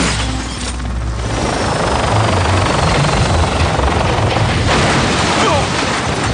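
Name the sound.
helicopter flying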